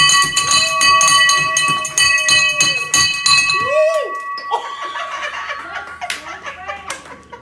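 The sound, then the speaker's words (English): A handheld bell rings loud with rapid repeated strikes and a sustained bright tone, then the bell breaks, cutting off into scattered metallic clinking and rattling. “I broke the bell.”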